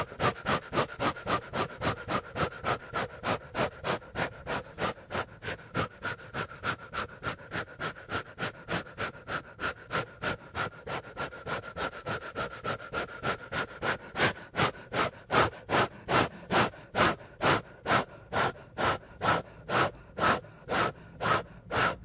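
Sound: deep rhythmic breathing exercise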